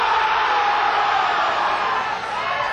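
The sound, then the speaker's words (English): An audience, on a count of three, shouts the dirtiest words that come to mind all at once, a loud, dense jumble of many voices that holds steady for a few seconds with no single voice standing out. “I want everybody, the count of three, to say the dirtiest thing that comes into your mind right now.”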